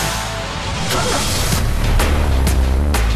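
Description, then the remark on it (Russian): A loud car engine roars, its deep rumble swelling steadily while sharp bursts and whooshes cut through, like a motor being revved hard. “Моторы.”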